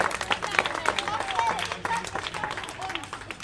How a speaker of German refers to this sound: Und ich wusste, dass die alle anderen Leute einen großen Applaus an der Mannschaft machen.